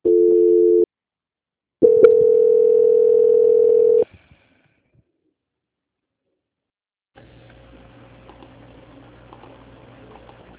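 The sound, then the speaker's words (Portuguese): Telephone transfer tones as a call is transferred to the quality control department: a short steady beep, a pause, then a longer sustained tone of about two seconds, followed by silence and a faint hissy line noise with a low hum. “Peço que o senhor não desligue o telefone. Tá, tá bom. Transferência.”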